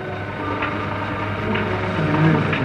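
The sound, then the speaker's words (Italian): Steady mechanical machinery churns with a low continuous hum and faint periodic clicks, a rhythmic ratcheting pulse repeating roughly every second, without voices. “L'ansare meccanico delle macchine batte il tempo come un metronomo che separa l'attesa dall'impresa.”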